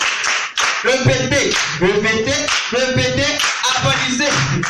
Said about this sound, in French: Wow. Applaudissez.